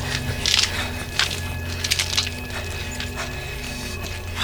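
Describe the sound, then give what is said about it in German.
A fire burning in a garden, with irregular, sharp crackles and pops over a steady low rumble, the snaps coming in uneven bursts of varying loudness with no voices. “Kollegen, im Garten brennt ein Feuer.”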